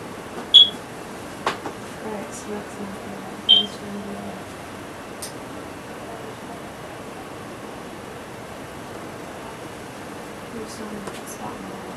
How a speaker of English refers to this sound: Why is there a smoke alarm in the attic? In the attic, see? Yeah, the attic?